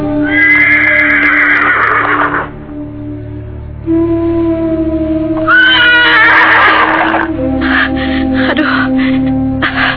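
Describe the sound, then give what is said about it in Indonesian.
A confused horse, its rider just thrown off at the roadside, neighs repeatedly while walking back and forth, loud, with long shrill whinnies around the start and middle and shorter snorting calls near the end, over a steady low background hum. “Sementara kuda yang ditungganginya tampak kebingungan. Dia meringkik-ringkik sambil berjalan ke sana kemari.”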